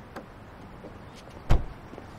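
A car door unlatches with a soft click as a woman gets out of the car, then shuts with a solid thump a moment later, against a quiet outdoor background.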